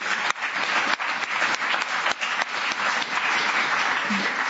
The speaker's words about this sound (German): Und zwar unsere tollen Ordner. Für diesmal einen Applaus geben, weil die sich hier echt voll mit einbringen.